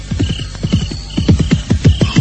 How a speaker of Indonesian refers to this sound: Kuda.